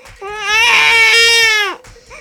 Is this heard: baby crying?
yes